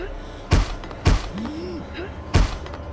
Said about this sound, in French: Pris d'un instinct de survie, elle lève le bras et frappe de toutes ses forces sur la glace où son reflet devrait être.